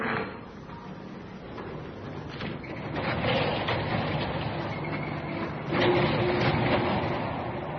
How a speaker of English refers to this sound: Listen, I think our friend's come back. Yes, listen. Somebody's trying to open the door.